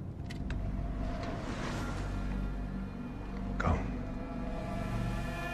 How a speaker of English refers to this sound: Sadly, the man climbs back into his car and drives away into the night.